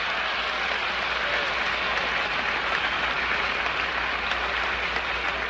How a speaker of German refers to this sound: Und er hat in einer anderen berühmten Rede ja gesagt, wir wollen zum Mond gehen, nicht weil es einfach ist, sondern weil es hart ist. Because it's hard. Unter ganz großem Beifall.